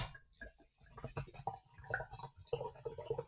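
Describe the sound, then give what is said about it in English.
Topo Chico sparkling mineral water pours into a glass in Southern California, a steady splashing gurgle with light crackling bubbles and small bright tonal blips as the glass fills over a few seconds. “So I'm ready to drink some water. You want some of this Topo Chico?”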